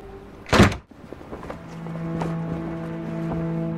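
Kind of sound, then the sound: household object, door slamming shut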